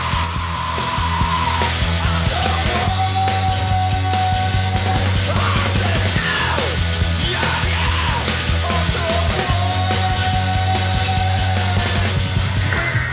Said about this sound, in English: I do like that groove. That's a good groove. It's a good groove, but in the middle of the song, you've got this screaming.